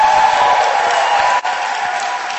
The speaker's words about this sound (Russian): Это три золотые маски. Я думаю, аплодисменты будут заслужены.